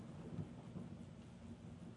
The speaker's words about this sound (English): Woo! There was even a snap there from the lightning.